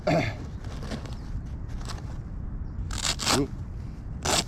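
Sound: zipper being opened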